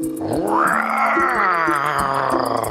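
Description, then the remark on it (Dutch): A human voice imitates a tiger's roar, a long, loud, rising growl that swells and holds as a strained, harmonic-rich moan for a couple of seconds before easing off. “Zo hé, jij bent een echte tijger, joh.”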